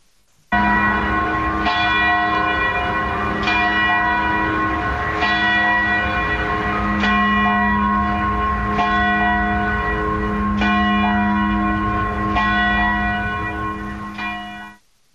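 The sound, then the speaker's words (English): A peal of church bells rings out continuously at Villanova to honor the election of Pope Leo XIV, strikes landing every couple of seconds over a sustained, resonant hum of overlapping tones, loud with no voices. “They rang the bells today at Villanova to honor the Pope, who's a graduate of Villanova.”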